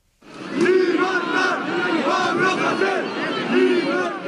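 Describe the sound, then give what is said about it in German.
Several hundred protesters march through the streets of Barcelona demanding freedom for an arrested rapper, many voices shouting a rhythmic slogan in unison with rising and falling cadence, loud and sustained throughout. “Mehrere hundert Demonstranten fordern Freiheit für den Rapper und ziehen durch die Straßen von Barcelona und anderen katalanischen Städten.”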